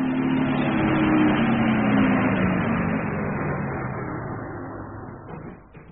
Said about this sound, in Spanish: Lejos de ahí, en la mansión de Lord Ferrison, el auto guiado por Tataje entra por los jardines envueltos en las sombras de la noche.